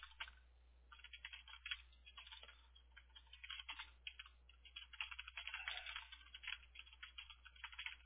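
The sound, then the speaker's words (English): Quick, irregular tapping of someone typing a reminder text message, the soft clicks running almost without pause for several seconds over a low steady hum, with no one speaking. “Just typing it right now.”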